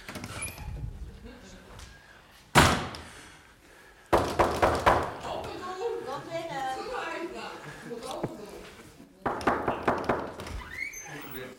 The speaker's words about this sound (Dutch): Zie, ik sta aan de deur en ik klop, zegt God.